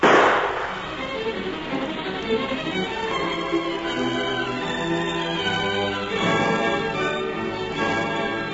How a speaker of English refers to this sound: Got your gun? Yeah. Then let him have it and beat it quick. No telling who'll hear the shot and come running.